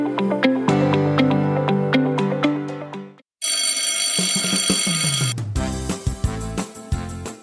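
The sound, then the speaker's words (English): A school bell rings loudly with no voices: bright, repeated chiming tones, a brief gap, then about two seconds of harsh, continuous electric ringing before the chimes return. “Well, kids, the dismissal bell is ringing.”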